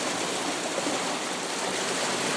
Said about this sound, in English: But standing underneath one of the arches of Richmond Bridge here, listening to the water absolutely pouring through.